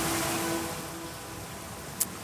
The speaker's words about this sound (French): Enfin, c'est surtout le bruit des vagues qu'on entend.